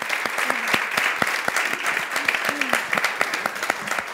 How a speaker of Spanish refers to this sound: Bueno, vamos a dar un buen aplauso